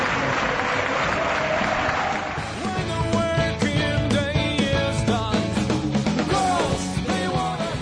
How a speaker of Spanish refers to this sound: Ahí va la ovación del Sadar para los suyos.